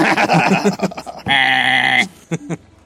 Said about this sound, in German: Und die Kinder zucken erschrocken zusammen, als deine Ziegen anfangen zu meckern.